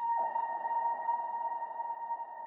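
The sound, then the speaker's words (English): A granular synth tone like a dying whale's moan: a steady, eerie high drone with a grainy, textured wash underneath, sustained unbroken for a few seconds at moderate volume, no voices. “It sounds like a dying whale to me, but I love it.”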